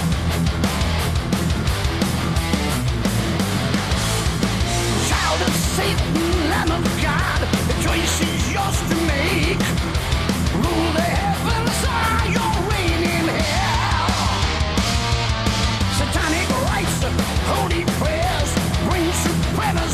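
A high, wailing metal scream at the beginning of a song soars over loud, dense heavy metal with driving drums and distorted guitars that play continuously throughout.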